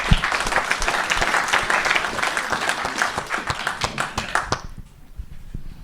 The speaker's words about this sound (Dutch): En ja, dat is ook mede dankzij deze geweldige commissie. En ja, ik denk nogmaals gewoon een groot applaus daarvoor. Zeker.